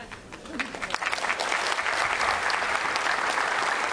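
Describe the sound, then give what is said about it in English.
A live audience breaks into steady applause, many hands clapping densely and building slightly in intensity for several seconds with no talking over it. “We got a round of applause and that was good.”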